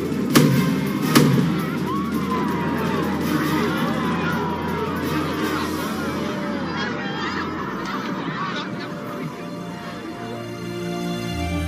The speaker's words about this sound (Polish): Dzień później, 13 maja, na placu świętego Piotra padły strzały.